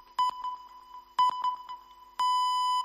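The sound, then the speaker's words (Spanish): Three radio time-signal pips marking 6:30, one second apart, the last a longer, sustained beep. They ring out clearly and loudly over a faint steady hum, with no talking. “Van a sonar las señales horarias de las 6:30.”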